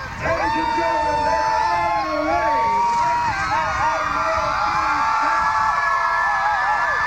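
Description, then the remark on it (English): A dense parade crowd, ten feet deep, at the corner off the Robert Street Bridge onto Kellogg cheers and shouts continuously, many overlapping voices forming a loud, sustained roar with rising and falling yells and whoops throughout. “we just turned the corner off the Robert Street Bridge onto Kellogg, and the crowds here are heavy. They're 10 feet deep, and they're really building, and they're all enthused. Listen to this crowd.”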